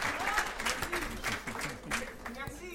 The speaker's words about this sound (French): J'adore être applaudi.